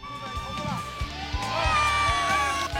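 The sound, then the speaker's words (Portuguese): A stadium crowd roars, cheers and applauds after a free-kick goal, in a dense, sustained wash of voices, with shrill whistles and repeated low thumps pulsing through the noise at a steady loud level. “São meio-dia 27 agora, a galera aplaudindo.”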